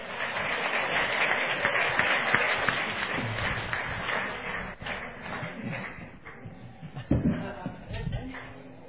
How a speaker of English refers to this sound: Let's give him a real good round of applause. On va l'applaudir.